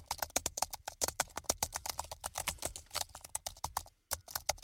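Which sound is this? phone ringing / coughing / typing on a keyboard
typing on a keyboard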